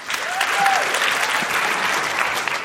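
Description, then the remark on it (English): An audience of women who have been online dating claps steadily for the full stretch, a dense, fairly loud wash of applause from a sizable crowd, with a brief high whoop rising out of it near the start. “People here who've been online dating, can you applaud women, especially if you've been dating online?”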